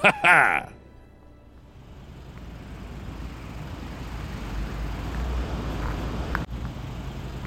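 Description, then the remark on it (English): Slow-moving traffic on 76 toward Mansfield rumbles steadily throughout, a low, continuous drone of car engines and road noise that swells slightly over time, following a short, loud, bright burst at the very start. “Man, I hate being stuck in traffic.”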